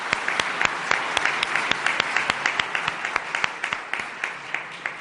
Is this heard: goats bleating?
no